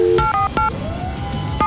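A quick series of electronic keypad dialing tones as someone dials a phone, several short dual-pitched beeps in an uneven rhythm, clear over a faint background hum and a brief rising tone.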